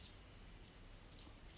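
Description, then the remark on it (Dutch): Three short, high, thin calls of hawfinches calling to each other while searching for seeds sound in close succession, each a brief sharp tick repeated at a steady pace, clear against a silent background. “Appelvinken zoeken zaden. Ze roepen naar elkaar.”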